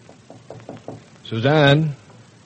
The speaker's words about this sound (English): Oh, she's upstairs in her room or in the nursery. Just knock on the door.